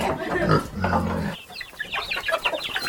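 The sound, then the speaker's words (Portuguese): Pigs grunt loudly for a moment, then a busy chorus of chickens takes over with rapid, overlapping clucks and squawks, on a small farm in Novo Horizonte. “Cultiva alface, milho, colhe frutas no quintal, ordenha as vacas, cuida de porcos e galinhas.”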